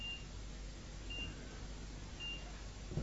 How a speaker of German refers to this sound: Wieder Piepser.